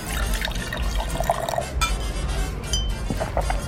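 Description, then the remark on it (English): A drink is poured steadily into a glass for a few seconds, with a faint clink of glassware and a busy murmur underneath, fairly loud. “Pour me a couple specials.”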